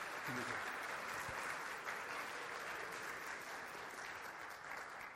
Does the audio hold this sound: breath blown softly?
no